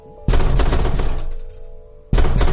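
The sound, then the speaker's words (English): Heavy pounding on a door, a loud, rapid barrage of booming blows that runs for nearly two seconds, breaks off briefly, then starts up again. No voices. “For goodness sake, you have the door in.”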